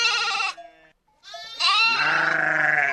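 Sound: sheep bleating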